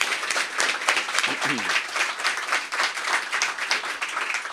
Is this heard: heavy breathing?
no